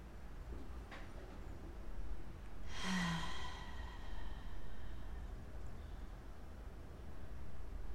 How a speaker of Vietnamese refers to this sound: Bạn có thể hít vào sâu và thở ra ba hơi thở ở miệng. Hé miệng mình thở từ từ hết ra.